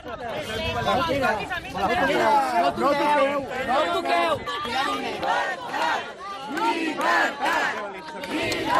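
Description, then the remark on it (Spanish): A crowd of CDR members on a beach shouts chants of "libertad, libertad" at a neighbour. Many voices overlap in loud, continuous rhythmic bursts that rise and fall without a break for several seconds. “Bueno, con los gritos de libertad, libertad, imponen que el vecino avance, impiden que salga de la playa”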